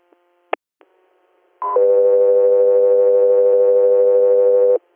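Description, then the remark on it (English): Radio dispatch alert tones for an interhospital patient flight in New York: a couple of sharp clicks, then a brief higher tone that drops into a long, loud, steady electronic tone held for about three seconds, clean and alone with no voices. “Delta 3 Air, stand by for tones.”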